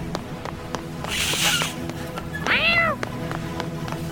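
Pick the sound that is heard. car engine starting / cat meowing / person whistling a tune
cat meowing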